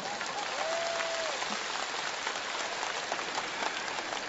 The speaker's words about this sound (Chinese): 鼓掌。